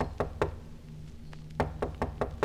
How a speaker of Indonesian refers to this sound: Tiba-tiba waktu jam sekitar jam 1 malam kalau nggak salah, dia gedor-gedor pintu kamar saya.